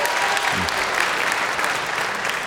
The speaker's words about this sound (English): How many of you think you have between 50 and 100 senators? You have to clap.